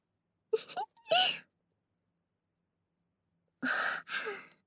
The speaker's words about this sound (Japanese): ダーリンすっごいあくび。もしかして、まだ眠かった？ そっか。昨日遅かったもんね。 じゃあ少し寝足りない感じ？